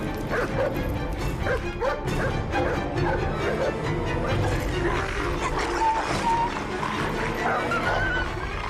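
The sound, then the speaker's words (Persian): A pack of dogs barks excitedly and nonstop, loud, with higher yips and whines mixed into a dense, chaotic chorus that lasts throughout, as the dogs are set on someone. “جواب بده وگرنه سگا رو میندازم به چونه.”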